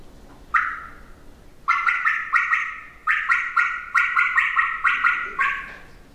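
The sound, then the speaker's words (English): A turkey call working a bubble cut used for Merriam's turkeys: one short yelp, a pause, then a fast run of sharp, bubbling cutts in uneven bursts, loud and raspy with no one talking. “Can you do your double cluck and double cut that you use for Miriams again? Yes, absolutely. We call this a bubble cut.”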